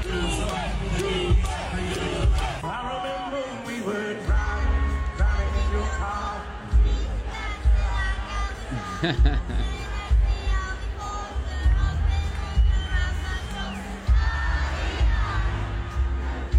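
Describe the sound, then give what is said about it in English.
A large concert crowd at a show in Boston sings along loudly and continuously with a young boy invited on stage, many voices blending into a dense roar over live music, with occasional surges and shouts throughout. “It sounds like he got the help of the crowd, too.”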